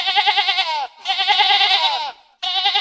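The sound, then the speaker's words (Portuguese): Frightened sheep on a small farm bleat loudly and insistently, three long wavering cries in quick succession with brief gaps between them, sounding frantic and distressed. “As ovelhas baliam desesperadas.”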